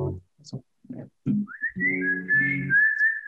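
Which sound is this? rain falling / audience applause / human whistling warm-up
human whistling warm-up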